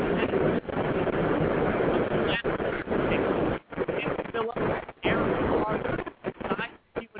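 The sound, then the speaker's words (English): A 4 train on the subway pulls in with a loud, continuous rushing roar and rumble, broken by a few brief dropouts toward the end, all heard through a thin, muffled phone line. “The four train's pulling up, so if I lose you, that's why.”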